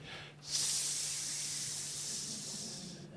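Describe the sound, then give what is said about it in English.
A voice imitates a snake's hiss: one sustained, breathy hiss lasting nearly three seconds, steady and fairly loud, bright and airy throughout, with no talking. “It's the hiss of the serpent.”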